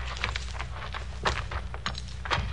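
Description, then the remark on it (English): The heavy door of a prison death house being opened: a few sharp metallic clunks and knocks spaced about half a second apart over a low, steady rumble, with no voices. “Open the door of the death house, quick.”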